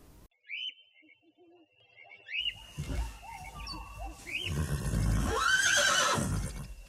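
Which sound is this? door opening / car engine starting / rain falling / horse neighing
horse neighing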